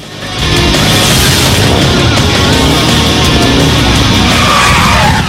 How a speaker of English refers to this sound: Barb gets on her motorbike and roars through the city streets, revving the bike with long fingernailed hands.